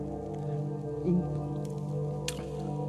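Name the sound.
water dripping and splashing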